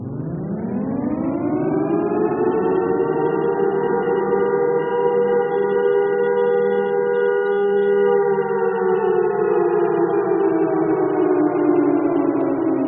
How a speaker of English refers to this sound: This is a civil defense siren. It's a large outdoor warning system, and it's designed to alert the public to potential danger. It's a really ominous sound.